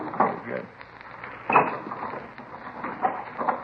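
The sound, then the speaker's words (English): A wooden dresser drawer, full of dirty T-shirts, scrapes and rattles as it slides open, with a sharp grinding burst at the start and another about a second later, followed by softer rubbing and knocks. “You want to check the dresser? I'll get the trunk.”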